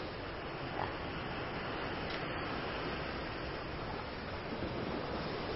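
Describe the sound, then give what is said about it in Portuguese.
A steady, broad roar of sea surf washing against the shore, continuous and fairly loud with no distinct pauses, like waves rolling in. No voices are heard. “No, que Dios me castigue si vuelvo a traer más animales como estos a ver el mar.”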